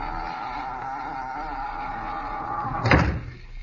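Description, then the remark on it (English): A steady low drone fills the background until a boathouse door is shut once near the end, a single loud thud that quickly fades back into quiet. “Shut the door.”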